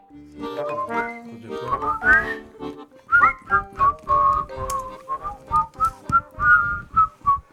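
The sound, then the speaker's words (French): Someone whistles a wavering, slightly off-key tune on the radio show La Midinale of Radio Piquet, the notes sliding and breaking unevenly in a series of short pulses, with no talking. “On sature, on siffle mal, c'est la Midinale de Radio Piquet de ce 13 mars 2023.”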